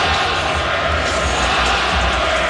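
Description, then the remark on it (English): A large arena crowd at a Knicks–Pistons game chants "Flopper, flopper" at Jalen Brunson in a dense, steady wash of voices, loud and unbroken throughout, with the chant blurring into one continuous mass of sound. “The crowd chanting, "Flopper, flopper."”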